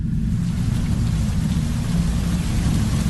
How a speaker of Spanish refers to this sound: Justo en ese momento se soltó la tormenta.